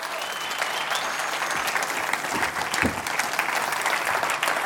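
Sustained applause from an audience, a dense steady wash of many hands clapping at an even loudness for several seconds, with no voices standing out above it.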